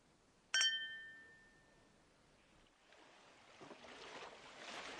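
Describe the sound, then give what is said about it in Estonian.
Champagne glasses clink once in a toast, sharp, with a bright ringing tone that fades over about a second. A soft, rushing wash of background noise swells afterward; no one speaks. “Joome ühe klaasi šampust.”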